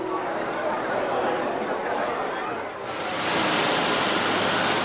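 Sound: helicopter flying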